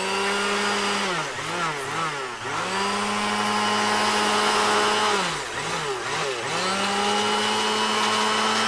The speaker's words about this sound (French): Alors, on met le poulet dans le mixeur et on le mixe. Et donc, ça fait... On le mixe. Ouais, on le mixe.